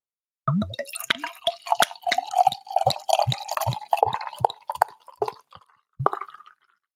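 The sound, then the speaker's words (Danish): Beer glugs out of an English-inspired ale bottle used by the Fanø brewery, poured live in front of a microphone, in a quick run of gurgling pulses, the pitch rising as it pours, then a short pause and a final burst. No one speaks. “den her flaske, som er den her lidt engelsk-inspirerede ale-flask, som Fanø jo bruger, den kan altså også noget, så nu prøver jeg lige at lave noget lyd også.”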